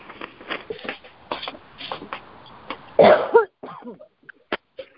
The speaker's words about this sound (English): Oh, no, we're going to get COVID. You just coughed into the phone. I didn't cough into the phone. I coughed away from it.